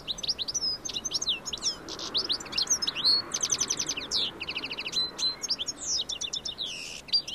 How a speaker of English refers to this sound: the sound of summer in suburbia. Goldfinches are heard in late spring and early summer more often than they're seen, when leaves mask the delightful tinkling song, rather like shards of falling glass.